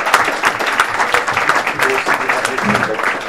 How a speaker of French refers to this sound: Alors, il vient de publier donc aux éditions ActuSF « Royaume de vent et de colère » et qui vient d'obtenir le prix Elda King, qui n'est pas rien. Donc, c'est vrai qu'on peut l'applaudir.